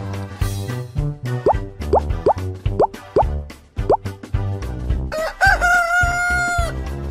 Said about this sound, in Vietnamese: Thấy trời sáng, gà gáy ó o, đua nhau gà gáy. Gà gáy thật to, ó ó o o.